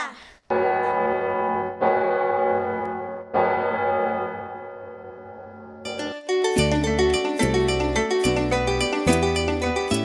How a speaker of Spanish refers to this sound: Con su gran boca y un solo diente, desde lo alto llama a la gente. ¿Qué es? ¡La campana!